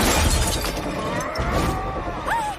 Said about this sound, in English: He smashes the mirror.